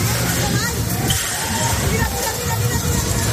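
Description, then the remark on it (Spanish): Strong wind roars as a whole fair tent is torn away at the Feria de San Fernando fairground in Cáceres, a loud, steady rush mixed with splashing rain and a hubbub of voices underneath. “Este es el momento en el que el viento arrancaba una carpa entera de la Feria de Cáceres.”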